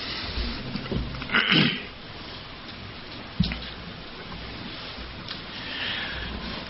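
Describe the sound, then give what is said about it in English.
Steady rain hisses in the background in Largo, Florida, a soft continuous wash with a few louder splashing bursts and an occasional sharp drip, with no voices present. “And we are located in Largo, Florida, and it's a rainy day today.”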